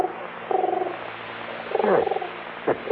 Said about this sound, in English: How about that? Pigeon on the windowsill. Yeah, he's looking for food.